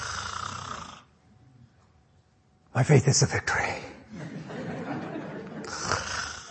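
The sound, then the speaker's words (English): A man's voice imitates loud, raspy snoring in a couple of rough snorting bursts, strong, with some spoken words running alongside and after. “And if you're one of those that snores,”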